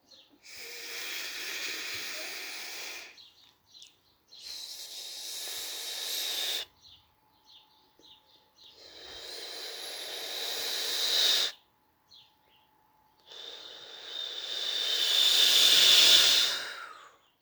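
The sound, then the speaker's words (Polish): Slow, deep breaths drawn in and let out during a guided breathing exercise, four long airy rushes each lasting a few seconds with short pauses between, fairly loud with no talking. “Uwaga, nabieramy oddech.”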